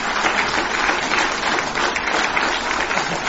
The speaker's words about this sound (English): Y esa iglesia, I want you to look around here. Come on, give him an applause.